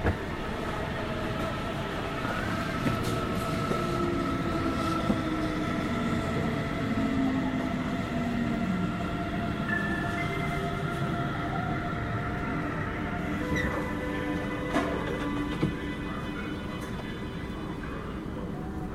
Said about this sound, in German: Und ich zeige euch jetzt mal, wie das klingt, wie die Lok bremst.